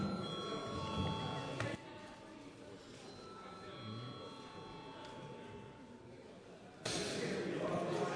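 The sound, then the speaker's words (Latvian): A parliament session bell, called for by the chair before deputies vote on a bill, rings continuously for several seconds, a steady metallic tone with sustained overtones, louder at the start and again near the end, over a low murmur of voices. “Paldies, lūdzu zvanu.”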